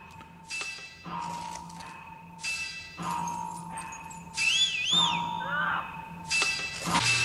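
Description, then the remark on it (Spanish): Ringing metallic percussion strikes at an unhurried, steady pace over sustained bright tones, with a few high swooping whistles joining midway; moderately loud, with no voices. “Elementos metálicos, cajas, silbido.”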